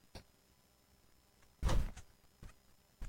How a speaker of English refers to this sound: Okay, they're squeaky, but I've had shoes that are squeaky like that, too. I just got to wear them for a little while, get some dirt in the crevices instead of the air.